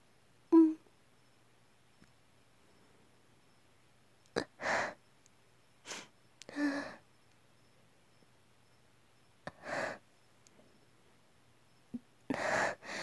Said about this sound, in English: With how much sniffling I'm doing, do you think we could put a tag, no sounds, and that might have people with a nose fetish come in here like, no sounds?